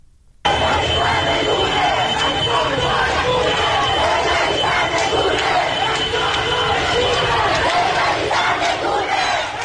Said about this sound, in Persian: ادامه این اعتراض ها به خیابان میرداماد تهران هم کشیده شده و مشخصه که اونجا هم اعتراض های بسیار زیادی رخ داده. ویدیوهای منتشر شده اینو نشون میده که شعارهای تندی هم علیه رهبران جمهوری اسلامی سر میدن.